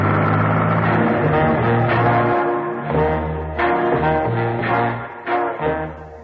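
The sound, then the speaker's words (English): A car engine hums steadily during a journey of about 40 minutes, its pitch stepping up and down as the vehicle moves along, with occasional surges of revving and no voices. “John Steed estimated that the journey took 40 minutes. He was then taken from the car”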